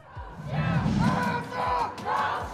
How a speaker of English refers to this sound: And in Tokyo, demonstrators shouted, "Dismantle the police."